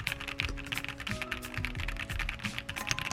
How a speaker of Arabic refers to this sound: بالنسبه بقى السويتشات بتاعه الكيبورد ده، اعتقد انت محتاج تسمعها اكتر ما اكلمك عنها.